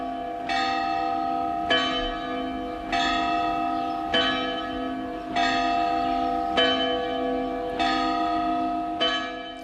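Church bells in Sant Eugeni, Mallorca, ring a festive peal for the town's summer festival, with bright strikes arriving at a steady, repeating rhythm about every second and a half over a sustained, humming resonance, loud with no voices.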